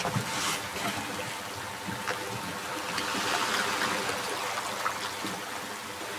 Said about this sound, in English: Oars in the water.